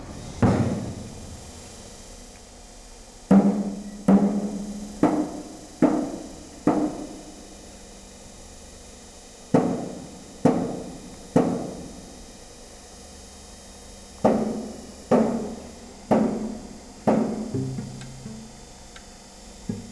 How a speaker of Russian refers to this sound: И очень жалко, что вот этот звук из 2017 года становится историей. Длинная машина-муковоз въезжает на территорию предприятия, из кабины выходит водитель, и резиновой колотушкой начинает стучать по цистерне, выколачивая остатки муки.